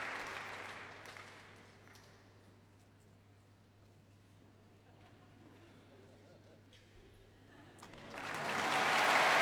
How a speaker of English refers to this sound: Albert Hall certainly enjoying the diversity of music making from all the many cultures around the world featured on the stage tonight. And members of the concert orchestra joining in the applause for these visitors from the other side of the world.